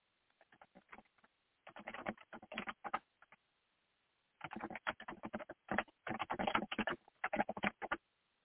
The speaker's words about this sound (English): I'm going to try to get a hold of her for just a second. Give me just a second. You might hear clicks on the keyboard here.